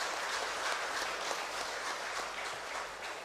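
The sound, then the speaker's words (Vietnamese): A crowd applauds steadily, a dense, even wash of many hands clapping at once with no pauses, holding a fairly constant loudness throughout before easing slightly at the end, in praise of those present at a wedding ceremony at Giác Ngộ Pagoda. “Hãy dành một tràng vỗ tay thật lớn để tán dương chung.”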